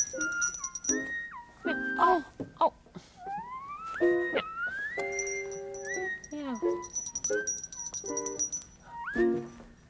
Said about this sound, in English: Will you do me a favor? Meow. Would you just keep on ringing the bell? Meow. So the horse will stay close?